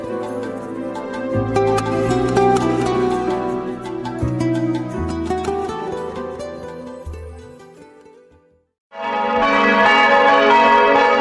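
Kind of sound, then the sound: ambience, church bells ringing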